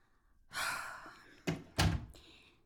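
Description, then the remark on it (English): A house door swings with a brief rushing scrape, then shuts with two solid thumps in quick succession, the second heavier, as someone enters. No voices are heard. “Why took you so long to come to the door?”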